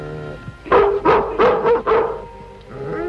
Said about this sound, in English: The confounded Miller dog. She's trying to say something to you. She wants you to follow her.